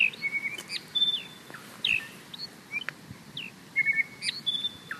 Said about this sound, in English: Yeah, that is the western whipbird. It sounds completely different.